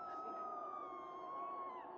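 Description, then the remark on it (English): A police siren wails in a long, steady tone that sinks slightly in pitch, before a sudden loud thump cuts in at the very end. “Blaring sirens, more screams.”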